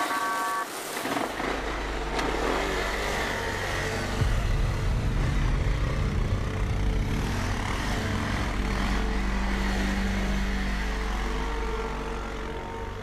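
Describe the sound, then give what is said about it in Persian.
A motorcycle engine starts up and revs loudly, its steady droning roar swelling after a few seconds and holding strong as it pulls away, with no voices. “داداش یه دقیقه من موتور تو ببرم.”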